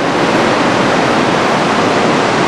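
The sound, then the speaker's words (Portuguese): The largest waterfall in North America, in Yosemite, fed by snowmelt, roars steadily, a dense, continuous rush of crashing water filling the whole soundscape with no breaks or other sounds. “O barulho ensurdecedor é da maior cachoeira da América do Norte.”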